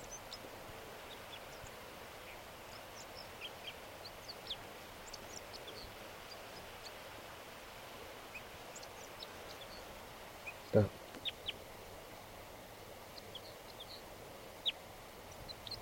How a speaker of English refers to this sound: A crossbill just, I just noticed it. It's singing here in the tree. Behind the net.